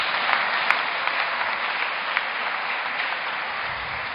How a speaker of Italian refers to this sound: Un applauso.